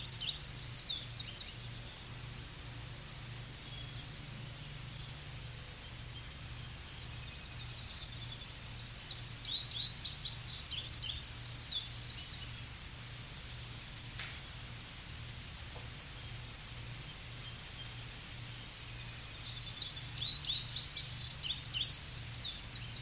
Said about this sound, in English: I say, I must listen to those birds.